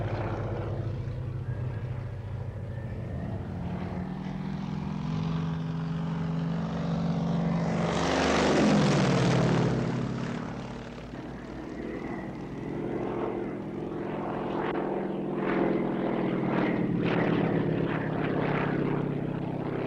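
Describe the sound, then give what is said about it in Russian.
A maneuverable propeller training airplane flown by top cadets drones steadily, swelling loudest as it passes overhead around the middle, then its engine note drops and fades as it flies away. No one speaks. “Маневренная машина. На ней летают наши лучшие курсанты.”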